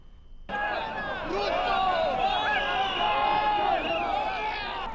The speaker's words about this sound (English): Crowds push and shove to enter Kasarani Stadium to witness the inauguration ceremony.